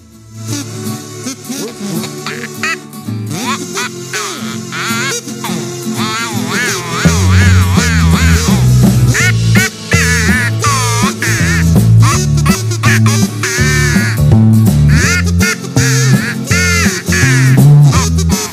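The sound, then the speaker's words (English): A buzzy, nasal Northern Nerd kazoo plays a wavering melody, loud, sounding almost like quacking; partway through a steady rhythmic backing with a bass line joins in under it. “All right, let's try the Northern Nerd Kazoo.”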